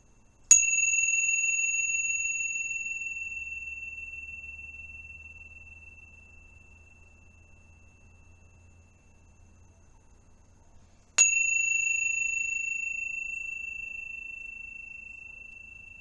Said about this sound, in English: And let's just start by anchoring our attention with the sound of the bells.